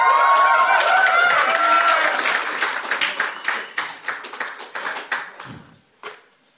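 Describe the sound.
An audience bursts into loud applause with a few voices cheering, then the clapping thins to scattered individual claps and fades out within a few seconds.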